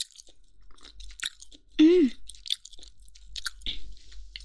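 Wet chewing and biting of chewy, juicy food with a crisp, chewy skin, bits of skin left dangling as it is bitten again, with a steady run of soft squishy crunches and smacks throughout and a brief hummed voice sound partway through.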